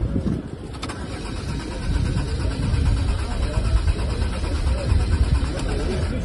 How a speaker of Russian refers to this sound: Тот же Герман Греф дважды безуспешно пытался завести презентованный на форуме автомобиль «Лада Аура»